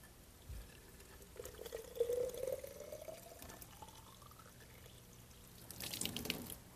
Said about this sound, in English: I have a squirt bottle in the kitchen that I can get. Yeah, here's one. I'll just fill it up with water.